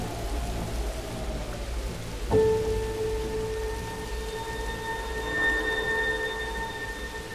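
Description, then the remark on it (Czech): Light rain makes a steady, soft hiss throughout, and a few seconds in a sustained, ringing tone with bright overtones enters and holds above it. No one speaks. “Počasí se změnilo, když se vítr obrátil a přinesl sebou žulová oblaka a jemný déšť.”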